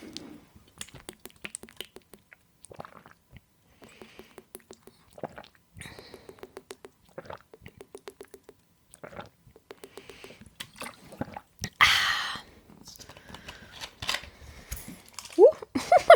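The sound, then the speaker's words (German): Someone takes five sips from a water bottle in a run of short, regular gulping and clicking sounds, then a sudden loud slosh of water splashes, nearly spilling the bottle over the microphone, before quieter bottle handling noises. “Jetzt hätte ich fast meine ganze Wasserflasche auf dem Mikrofon verteilt.”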